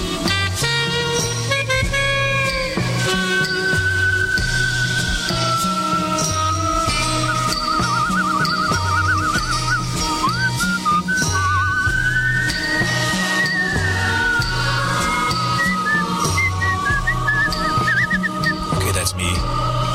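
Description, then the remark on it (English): A whistler performs a clear, sustained whistled melody that glides and wavers above a steady band backing with a pulsing bass line, the whistle sitting prominently in the mix with smooth slides between notes. “This is …. She's a whistler. You heard the whistling earlier, didn't you, in this tune”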